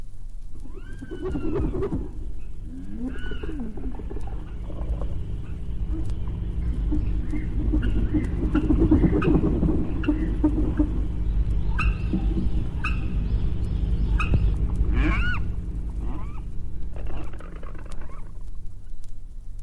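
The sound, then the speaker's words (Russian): Stork and African marabou sounds: dry clattering bill bursts mixed with deep, moaning grunts and some higher whistling calls, continuing steadily for about twenty seconds with no talking. “Этот не только трещит клювом, а другой раз и промычит, как корова.”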